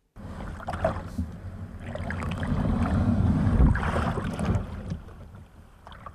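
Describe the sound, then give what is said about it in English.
A kayak scrapes and splashes as it is pushed off a riverbank of the River Dee into the water, a rumbling shuffle building to a loud surge of sloshing before settling, with light wind on the microphone. “In this audio postcard, he invites us to join him as he pushes off the riverbank into the water.”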